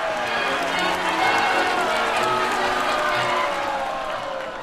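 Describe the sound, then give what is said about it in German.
A large crowd cheers and shouts continuously, a dense wall of overlapping voices that stays loud and steady throughout before easing slightly at the end, celebrating the first run of a steam locomotive in December 1838. “Die erste Fahrt einer Dampflok im Dezember 1838, also vor 175 Jahren, gerät zu einer großen Jubelfeier.”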